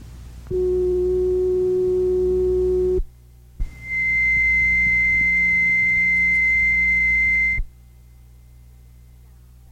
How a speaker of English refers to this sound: Next to be demonstrated is the sound of an unstable or singing telephone repeater. The first sound is a low frequency sing. The second sound is a high frequency sing.